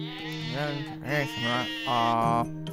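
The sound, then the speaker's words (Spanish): Sheep bleat several times in a row, wavering cries overlapping one another, loud and continuous across the few seconds. “Si un hombre tiene 100 ovejas y una de ellas se pierde,”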